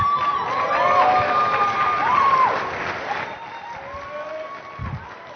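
A church audience claps steadily in a dense, continuous patter for a member's baptism, with a few high sustained whoops of cheering over it. The applause is loudest early on and gradually thins out toward the end.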